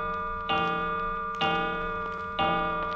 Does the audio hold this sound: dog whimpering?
no